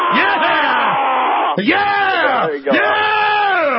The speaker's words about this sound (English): Let me hear both of your war growls. Let me hear some of your war face.